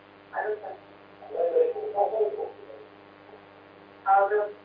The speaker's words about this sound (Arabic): اخفض التلفاز واسمعيني من الهاتف.